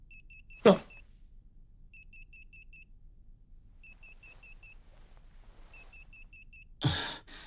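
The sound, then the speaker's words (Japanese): An electronic alarm beeps in quick bursts of four or five high, thin tones, each burst repeating about every two seconds, with a sharp knock near the start and another near the end. “いや、これは電話じゃない。アラームだ。”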